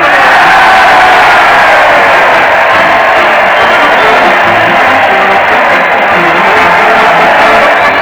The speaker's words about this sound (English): Listen to that crowd. They're cheering Fred Allen as he leads his weekly parade to the old Town Hall. Fred's leading the band with a Roman candle, and the Mighty Allen Art Players are right behind doing their best to dodge the spark.